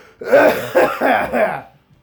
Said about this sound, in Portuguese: Eu mal conseguia falar 4 frases sem tossir com um camelo. Mas agora eu tô de boa. Tô de boa, não. Vou tossir ainda.